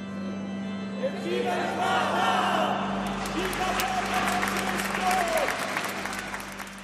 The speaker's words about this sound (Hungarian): A templom előtti térre érve tapssal búcsúztak tőle a plébánia hívei, mondván, milyen szép pillanat volt.